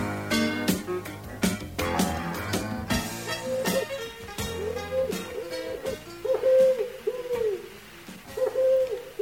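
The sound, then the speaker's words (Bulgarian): A snow-white, fluffy collared dove coos in a steady series of soft, hollow hoots over background music with sharp percussive hits, the calls growing clearer and more regular toward the end. “Гу-гу-гу. Гледай ти, каква гугутка.”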